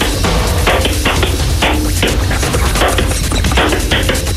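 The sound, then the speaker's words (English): A hand slaps a bare bottom in a quick, uneven string of loud, flat smacks, like playing bongos, in the Bum Bongo game on the 95.8 Capital FM Breakfast Show, with no talking. “And keep the phone near his bottom so we can hear the slap.”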